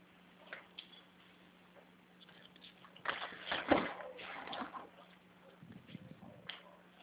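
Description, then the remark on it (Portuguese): Water from a tap at home splashes and gushes for a few seconds, swelling in the middle, then is shut off, leaving quieter shuffling and muffled sounds, heard through a thin, phone-like line. “vou fechar a torneira e vou lá pegar, tá bom?”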